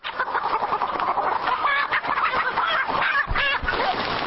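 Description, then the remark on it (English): Many red hens on a farm in Thailand cluck and squawk in a busy, agitated chorus as men in face masks and rubber gloves pull them from their cages and stuff them into sacks for culling; overlapping calls rise and fall with no pauses over a steady rustling background. “Instead, men wearing face masks and orange rubber gloves walk the planks between each row, pulling the red hens out of their cages and stuffing them into gunny sacks.”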